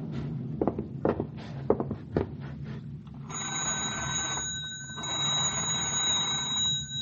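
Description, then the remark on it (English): An old telephone is handled with a few sharp clunks and clicks, then its bell rings loudly in two long, steady bursts with a brief gap between them, as it is rung to call the operator. “I'll telephone the girl.”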